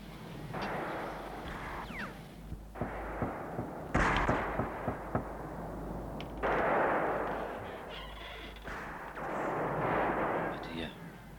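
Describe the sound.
Gunfire from Wai-chu's gangs looting locked shops as they leave the town crackles in scattered bursts, several sharp shots clustered together, then fewer, over a steady rumbling, noisy background with faint voices.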